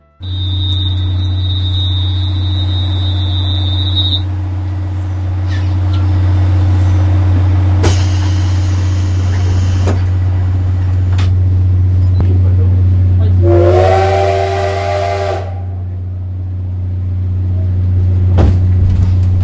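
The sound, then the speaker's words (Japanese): Inside a carriage of a five-car steam locomotive train as it departs Kushiro Station, Japan: a steady low mechanical rumble throughout, a sudden burst of hissing steam midway, then a short, loud multi-tone whistle blast. “じゃあここでですね、ちょっと今度長いんですけども、釧路駅を、まあ、SL を出発するときの、これ車内ので撮ったやつなんですけども、 はい、 ちょっとこれを聞いていただきたいと思います。”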